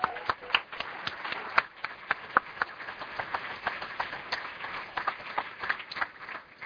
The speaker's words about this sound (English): When I worked for Sandy, that's how we started out every morning. He gave me a round of applause.